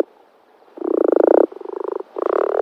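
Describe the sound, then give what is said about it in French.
A common frog (Rana temporaria) croaks in three rapid, purring bursts, each a fast train of low grating pulses, fairly loud with short pauses between, and no voices. “Je suis la grenouille rousse.”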